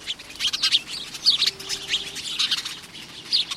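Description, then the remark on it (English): House sparrows chirp busily and continuously, a dense jumble of short, bright cheeps overlapping at moderate volume, with no one speaking. “The name house sparrow fits it well because from Bangor, Maine to San Diego and Haines, Alaska to the Panama Canal and even in Hawaii, it's found nearly everywhere people live.”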